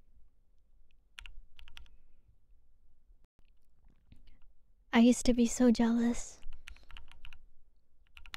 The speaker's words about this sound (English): you guys heard both my keyboard and Raina's keyboard in this stream.